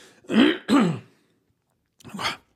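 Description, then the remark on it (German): Someone with a frog in their throat clears it with two rough, gravelly bursts in quick succession, then after a short pause gives one more, slightly softer rasp. No speech accompanies it. “Versprecher und Lacher oder irgendwelche Sachen, wo man Frosch im Hals hat.”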